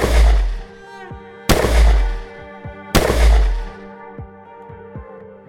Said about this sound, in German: Danach waren sie zu Bett gegangen, als plötzlich die besinnliche Stille durch 3 Schüsse zerrissen wurde.